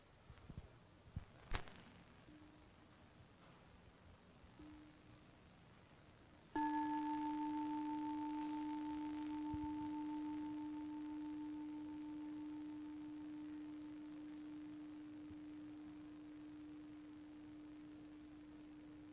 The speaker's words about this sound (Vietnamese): Mời quý vị lắng nghe ba tiếng chuông. Chúng ta có thể nhắm mắt lại, vẫn tiếp tục thả lỏng toàn thân và tập trung vào khả năng lắng nghe, cố gắng lắng nghe trọn vẹn hết ba tiếng chuông mà không để tâm mình dễ dàng phóng đi.